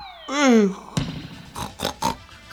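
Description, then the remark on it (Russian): A voice mimics a pig, opening with a loud, drawn-out descending squeal followed by a few short, rough snorting grunts in quick succession, clear. “Ой, опять прохрюкался.”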